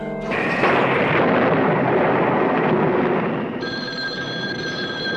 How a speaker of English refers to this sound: Yes, isn't this some storm? I hope it doesn't wake the baby.